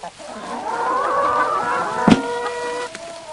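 Hens and turkeys call in a farmyard during evening chores as eggs are gathered, their drawn-out, warbling cries overlapping steadily, with a brief sharp knock partway through and no talking.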